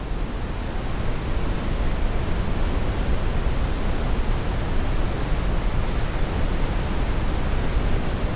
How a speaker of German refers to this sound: Du schließt deine Augen und lauschst dem leisen Rauschen des Meeres in der Ferne, das dich sanft in den Schlaf wiegt.